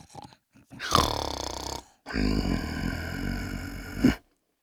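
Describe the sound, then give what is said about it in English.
Loud snoring: two long, rough, rumbling breaths separated by a brief pause, the second drawn out longer and ending in a sharp snort. No one speaks. “We followed the sound of the snoring.”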